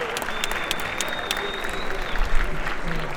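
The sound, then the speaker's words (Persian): A crowd in a hall applauds steadily for a few seconds, for themselves and for Dr. Amir Abdolhosseini, arts deputy of the Tehran Municipality cultural and arts organization: a dense wash of clapping with scattered sharper claps, swelling slightly near the end, with a faint tone lingering in the background. “دوست و برادر عزیز و ارجمندم آقای دکتر امیر عبدالحسینی، معاون هنری سازمان فرهنگی و هنری شهرداری تهران، شایسته خودتون و ایشون رو تشویق کنید.”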